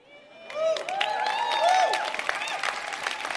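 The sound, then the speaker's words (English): An audience breaks into applause for a degrowth advocate calling to urgently dismantle capitalism, a dense patter of many hands clapping, with rising whoops and cheers from the crowd riding over it, loud and sustained throughout. “This degrowth advocate wins applause, saying, urgently dismantle capitalism.”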